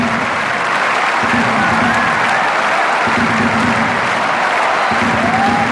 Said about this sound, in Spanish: Francia entera, el mundo entero. ¿Quién no se va a levantar a aplaudir a don Rafael Nadal Parera? No hay un alma sentado.